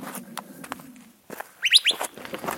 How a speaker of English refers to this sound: In the dim light, there are birds everywhere.